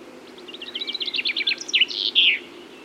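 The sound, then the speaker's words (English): A chaffinch sings one bright, cascading phrase: a quick run of descending trilled notes speeding up, then a loud emphatic flourish at the end, heard clearly over a low steady background hum. “They have a loud, pleasant song.”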